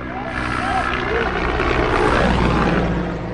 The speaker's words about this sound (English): Just an hour before, the presidential helicopter landed in a nearby pasture where a sacrificial bull was waiting for him